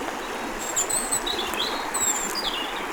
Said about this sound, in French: qui s'écoule au milieu de ces bois épais et de ces oiseaux. Siffleur.